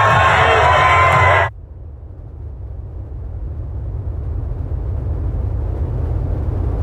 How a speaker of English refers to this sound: Supporters have set off flares and climbed lampposts to cheer on their heroes during a two-hour open-top bus parade. These fans say it's been a long time coming.